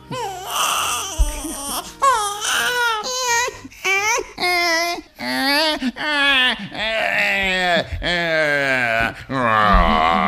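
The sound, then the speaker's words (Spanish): An older man imitates a crying baby, letting out a steady run of loud wailing sobs with rising and falling pitch, broken by brief gasping pauses. “Efectivamente, se trata de un hombre llorando como un niño.”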